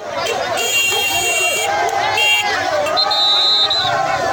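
A loud, dense crowd of supporters cheers and chatters, welcoming home the Isolé Sport de Sibut football players between Bangui and Sibut, while shrill, sustained whistle tones cut through the din, with clattering banging of pots mixed in the steady roar.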